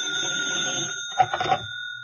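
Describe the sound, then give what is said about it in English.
A telephone bell rings in a steady, shrill, unbroken tone, with a short burst of clattering noise partway through before the ringing fades out. “When I woke up, the telephone had been ringing for a long time.”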